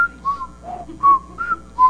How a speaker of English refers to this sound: Can we all whistle that?